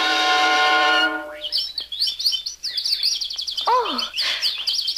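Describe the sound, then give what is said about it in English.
A held, buzzy tone gives way to a dense flurry of high, twittering chirps from many little baby birds in a forest, lively, with a quick descending whistle near the end. “Oh, only little baby birds, and squirrels, and bunnies, and they're all so friendly.”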